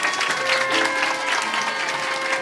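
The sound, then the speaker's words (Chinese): An audience applauds with steady, dense clapping that fills the whole moment at an even loudness, with a faint sustained tone running underneath. “好，我们给他掌声，谢谢主。”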